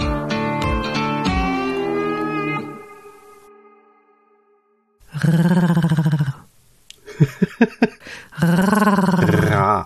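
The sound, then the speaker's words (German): A person imitates a growling creature, trying to sound like Chewbacca, making rough, warbling vocal roars in several loud bursts. A fading opening growl and a brief silence come before a series of choppy grunts and longer growls. “Jetzt schnurren wir ins Mikrofon. Nein, ich dachte, ich klinge wie Chewbacca.”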